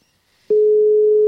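A telephone ringing tone on an outgoing call: a steady, loud, single-pitched beep cuts in halfway through and holds unbroken to the end, with no voices.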